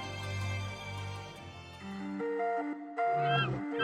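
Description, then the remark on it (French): A creature squawks loudly in a run of shrill, honking calls that rise and shift in pitch over a few seconds, with no talking. “Ah, mais pourquoi il se met à piailler maintenant? Ah, c'est insupportable!”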